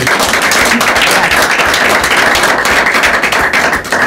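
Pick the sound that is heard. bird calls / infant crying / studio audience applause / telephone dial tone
studio audience applause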